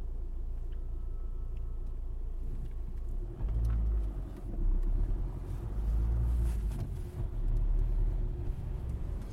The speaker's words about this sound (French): Bruit du moteur.